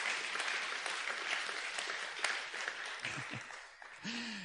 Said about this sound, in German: ihr werdet unter tosendem Applaus von dieser Bühne verabschiedet und ihr bekommt natürlich ein Geschenk.